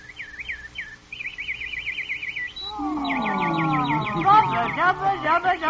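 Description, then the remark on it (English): A nightingale sings alone, starting with quick, high whistled trills, then swelling into louder, fuller sliding notes that rise and fall in rapid, warbling phrases. “And then the emperor gave the command. Nightingale, sing.”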